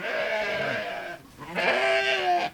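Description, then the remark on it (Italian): Two loud sheep bleats, one after another with a brief pause between, each a wavering, quavering cry lasting about a second, with no talking, from one of two pet sheep named Heidi kept in Cantello, in the province of Varese, Italy. “che vive felicemente con due pecore, salvate l'anno scorso da morte certa.”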